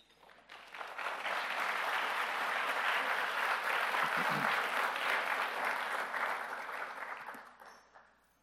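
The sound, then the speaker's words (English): A crowd claps steadily for several seconds, a dense, even wash of applause that swells in, holds at a strong level, then tapers off toward the end. No one speaks. “Told you I'm not used to people clapping for me,”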